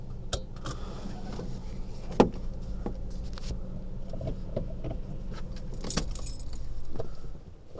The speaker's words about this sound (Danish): Jeg kører ind på området, ind på en lille parkeringsplads. Jeg tænker, jeg vil holde her.